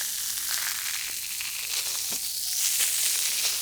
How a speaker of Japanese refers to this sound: シュワシュワ。なんか、炭酸泡が、なんか、炭酸泡が弾けすぎて、痛いとかはないですか？大丈夫ですか？